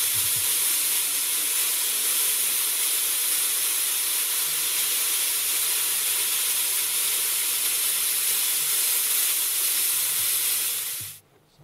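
A waterfall roars steadily, a dense, bright rush of falling water with strong hiss in the highest range, holding constant for about eleven seconds before cutting off abruptly.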